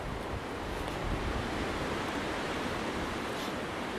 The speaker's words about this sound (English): A very windy Dickie Hills Country Park.